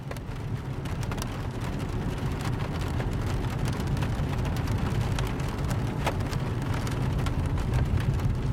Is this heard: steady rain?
yes